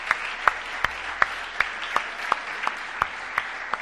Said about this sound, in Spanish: Denle un aplauso al Señor los que ahora se sienten libres, libres, ¿sí?